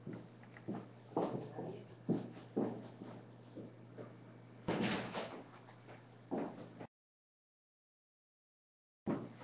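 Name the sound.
door being closed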